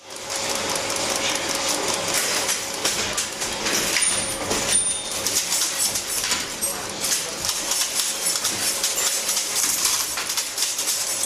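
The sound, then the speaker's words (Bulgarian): A linotype typesetting machine runs steadily as an operator types at its keyboard while it melts metal alloy ingots and casts the typed letters into lines: a dense stream of rapid metallic clicks and ratcheting clatter over a faint constant hum, holding an even, loud level throughout. “Това е линотипна машина.”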